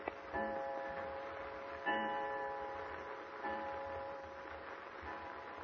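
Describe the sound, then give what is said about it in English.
A clock about to strike 7 o'clock sounds three slow, evenly spaced strokes about a second and a half apart, each with a resonant ringing tone that lingers. No one speaks. “The clock is just about to strike 7.”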